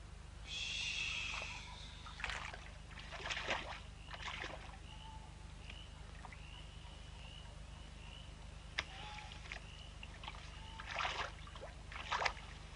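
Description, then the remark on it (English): A rowboat glides over water, oars dipping in a steady rhythm of splashy strokes every second or so, with a faint hiss of moving water between strokes and no voices. “The boat! It's finished! The boat! I'm in the boat! Bail! Bail!”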